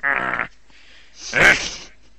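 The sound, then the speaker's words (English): A cough: a short voiced, rasping burst, a brief pause, then a second louder, harsher cough with a breathy hiss. “It sounds like you've got a cough.”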